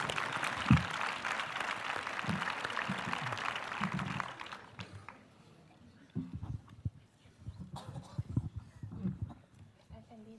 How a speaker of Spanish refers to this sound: Aplaudan, por favor.